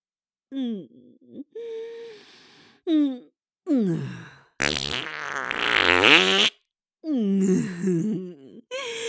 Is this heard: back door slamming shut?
no